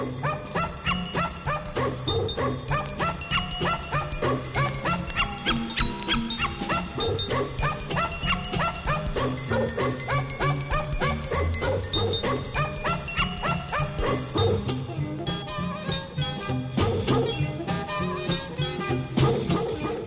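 Dogs bark and yip over and over for the whole stretch, loud, with a few whimpers mixed into a dense, busy backdrop and no talking.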